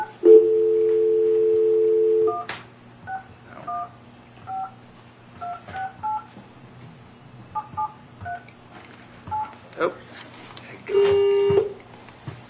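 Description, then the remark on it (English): A steady dial tone for a couple of seconds, then a quick series of touch-tone beeps as a phone number is punched in, ending with another short tone burst. “All right, we're going to make the phone call.”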